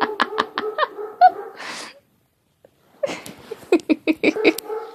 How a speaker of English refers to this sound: That would be my dogs.